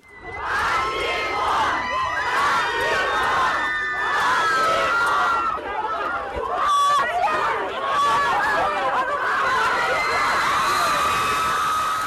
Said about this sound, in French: Alors voilà, elle leur hurle dans les oreilles, comme vous pouvez le constater par vous-même, mais c'est déjà très impressionnant.